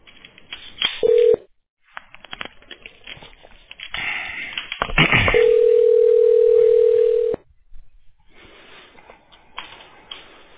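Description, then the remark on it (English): A phone line rings through as a call to Valley HVAC and Refrigeration connects: a short steady electronic tone, then a longer two-second one, with crackly line noise, clicks and hiss around them. “Please wait while we connect you.”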